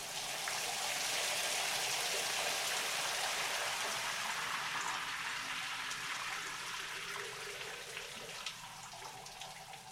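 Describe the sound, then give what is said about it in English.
A shower runs steadily for the whole stretch as a man showers to get ready for work, a dense, hissing spray of water with a faint pattering texture, no voices, the level staying even throughout. “He rises and goes to the shower to get ready for work.”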